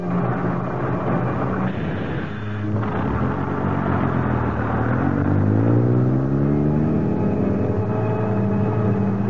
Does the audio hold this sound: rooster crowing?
no